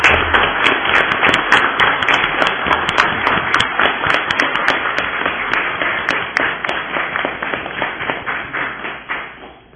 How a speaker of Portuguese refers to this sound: Senhor presidente, com a permissão de Vossa Excelência, queria convidar a todos uma salva de palmas a esses cientistas do município de Apiaí.